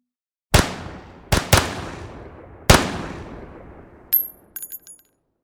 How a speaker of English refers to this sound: Some reports claim that the strikebreakers and guards did their best to antagonize the mob, only adding to the already volatile situation. It didn't take long before shots were fired.